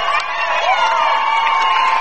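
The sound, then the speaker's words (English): A steady, loud electronic buzzer drones for about two seconds, a flat tone with bright overtones, ending a basketball game between Delphus St. John's and Cincinnati College Prep, while a crowd cheers and shouts underneath. “Buzzer sounds.”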